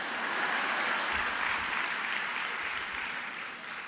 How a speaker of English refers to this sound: Yes, you may applaud that.